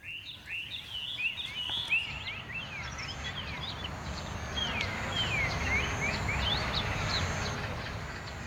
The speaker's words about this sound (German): Und bei Snake Bride singen endlich die versprochenen chinesischen Vögel.